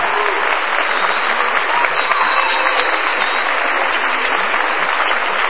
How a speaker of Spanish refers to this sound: Quien agradece los aplausos y adopta un niño.